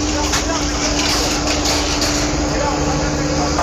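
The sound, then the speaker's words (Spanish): Engines of riot-control police vehicles idling in a loud, steady rumbling drone, with a constant low hum running underneath and no pauses across the few seconds. “El sonido que ustedes escuchan son los motores de los vehículos de control de orden público que están acá justamente.”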